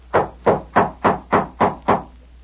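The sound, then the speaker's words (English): Seven steady footsteps approach a door in an even walking rhythm, each a solid thud with a short decay, clear with no voices over them. “Me hear a footstep.”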